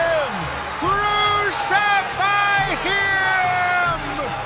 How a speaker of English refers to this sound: When the chief priests and the police saw him, they shouted, "Crucify him!